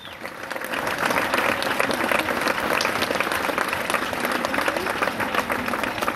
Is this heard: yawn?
no